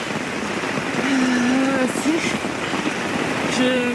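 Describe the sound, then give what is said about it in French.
Torrential rain pours down during the rainy season in Uganda, heard from inside a tent at a bivouac as the water level rises, in a dense, steady roar that fills the whole scene, with a faint tonal hum briefly surfacing beneath the downpour twice. “Ah, je suis trempée, il pleut, mais à torrent, et le niveau de l'eau qui monte.”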